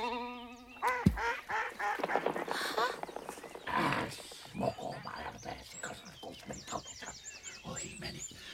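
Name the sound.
ducks quacking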